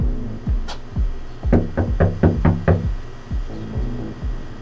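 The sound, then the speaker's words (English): Someone knocking on apartment doors in Fox Meadow: a quick run of about six firm, evenly spaced knocks on a door, with softer scattered thumps and low resonant rumbles before and after; no one speaks. “So that's where we start, knocking on doors, with a photo of Sasir and Anish in one hand and a microphone in the other.”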